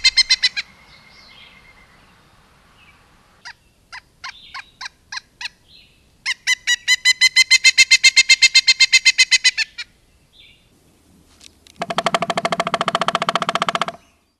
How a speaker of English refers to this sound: Listen to the pileated woodpecker sound and see if it doesn't sound like the flicker.